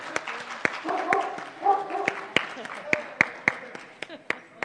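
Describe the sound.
A dog barks and yips several times in short bursts while scattered hand claps of applause for two speakers at the end of a presentation ring out around it, with faint voices murmuring in the background.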